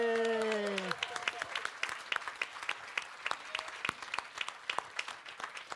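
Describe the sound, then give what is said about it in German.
A small audience at a stage event breaks into steady applause after a point score is announced, with a brief voiced cheer at the start; the clapping stays moderate and fairly sparse, with individual claps audible for several seconds. “Einmal Applaus.”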